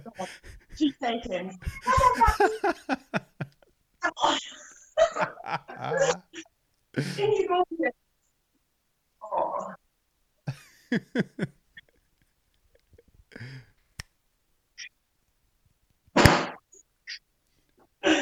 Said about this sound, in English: That was the loudest cat in the world. So loud and so far, it's unbelievable.